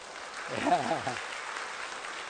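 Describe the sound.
An audience claps for the speaker's wife in a steady, dense wash of applause for a couple of seconds, with a brief voice rising over the clapping early on.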